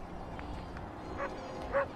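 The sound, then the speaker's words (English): A dog barks twice, short sharp yaps spaced about half a second apart, over a steady low background hum. A few fainter yips come before them. “Have you always wanted to bring your dog to Lecom Park to watch a baseball game?”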